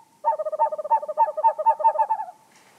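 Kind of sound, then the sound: bird, screech owl call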